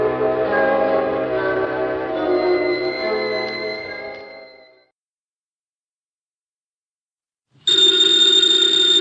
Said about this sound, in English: Ladies and gentlemen, the ringing of that phone bell brings you mystery, adventure.